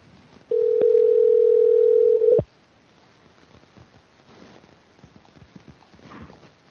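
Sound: telephone dial tone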